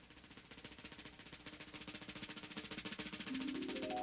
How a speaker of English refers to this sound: Now it's time for this person to put on this bridge and strings. Oh, the strings. He'll use a drill to speed up the winding of the strings.